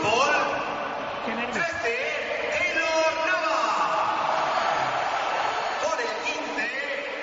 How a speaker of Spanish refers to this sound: Creo que ha habido aplausos, evidentemente, para Navas.